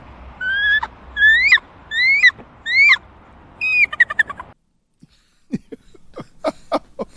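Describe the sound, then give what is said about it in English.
A child mimics a bald eagle's cry: four rising, whistly screeches in a row, then a rapid stuttering chatter, followed by several sharp, piercing chirps after a brief pause. “Now I'm waiting for our young friend to do a wizard noise. Bald eagle.”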